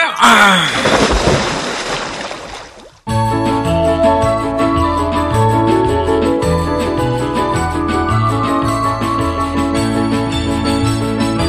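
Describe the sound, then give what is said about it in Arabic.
A servant forcefully splashes water onto two statues: the splash hits hard and spatters for about three seconds, then cuts off abruptly as steady, rhythmic music starts and carries on. “رش الخادم أحبة الماء على التمثالين بقوة، وبعد لحظات،”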